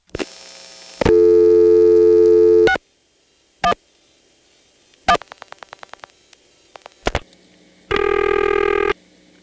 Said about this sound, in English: Nine-two is where 611 repair service went. Here's a composite illustrating what it was like to call repair service in 1973 from a touchtone phone in Occoquan.